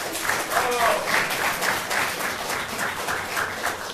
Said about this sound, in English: Okay, hold your applause, please.